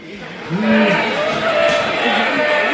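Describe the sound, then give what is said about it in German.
Construction site noise outside, heard as a balcony door is opened: a loud, continuous mechanical roar with whining tones that rise and fall as machinery works, steady from start to finish. “Also, ich kann es Ihnen mal kurz zeigen, wenn wir hier die Balkontür aufmachen, hört man natürlich sofort draußen die Baustelle.”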